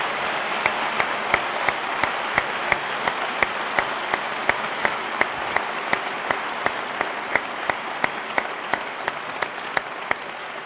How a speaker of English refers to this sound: But why don't we do this? A round of applause for both gentlemen, and we'll go to questions from the audience.